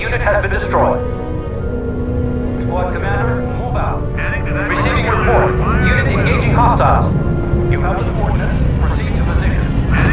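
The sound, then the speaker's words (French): Warplanes roar steadily and loudly as they attack tanks in a busy video game battle, a dense engine drone with rumbling low end, while voices talk over the din throughout. “Ah bah, les tanks se sont fait attaquer carrément par les avions.”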